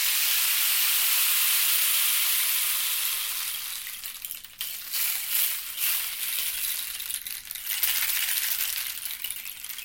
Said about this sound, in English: And it's got little pellets in there, little BB-like things, hundreds of them. And they cascade off of these toothpick-like protrusions in the canister. It's a very delicate sound, sound of rain. It's sort of going to rain.